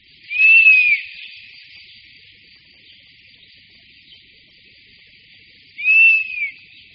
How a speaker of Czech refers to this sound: Jasně znící hlas včelojeda, který je nápadně vyšší než volání dospělé káně lesní, můžeme nejčastěji slyšet na jeho hnízdišti.